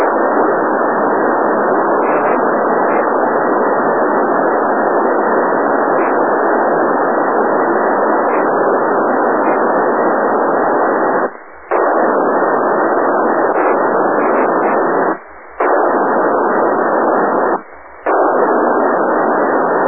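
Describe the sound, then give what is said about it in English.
Steady, loud radio static hisses through a narrow band from a weak satellite downlink, the satellite just coming into range, cut by three brief dropouts near the end. No voices are heard. “Echo Mirror 5-5, yeah, just barely hearing the bird, it's just getting here.”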